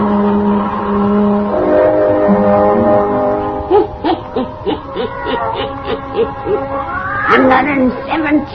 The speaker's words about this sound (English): Weird, blood-chilling tales told by old Nancy, the Witch of Salem, and Satan, the wise black cat. They are waiting, waiting for you.